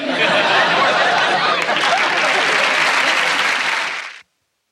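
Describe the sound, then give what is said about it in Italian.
A crowd applauds loudly and steadily, a dense wash of clapping with a few chuckles mixed in, holding for about four seconds before cutting off abruptly. “Let's hold the applause till the end.”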